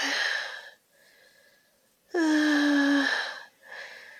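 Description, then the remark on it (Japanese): Heavy, ragged breathing: several loud breathy exhales and inhales, one drawn-out exhale carrying a voiced, moan-like tone, with no words spoken. “息遣いが荒くなっちゃう。”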